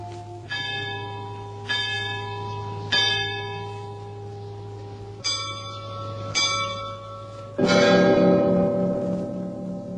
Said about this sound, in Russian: Вот это звон будничный, так называемый. Он очень музыкальный, но в то же время его звонить надо чем-то. Вот что. Его начинали, бывало, редко, а потом сводили так часто, что получается разлив красивый с красивой.